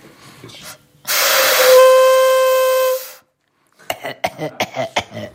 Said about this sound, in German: Du musst noch ein bisschen üben. Ja, die Tröte ist wirklich original Hongkong-Ware, kommt jetzt nicht aus dem Schwäbischen oder aus dem Alemannischen oder so, deswegen kommt jetzt da nicht mehr so viel raus.